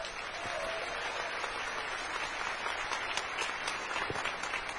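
A crowd applauds steadily for several seconds, a dense, even wash of clapping with scattered sharper claps standing out, holding a constant level throughout.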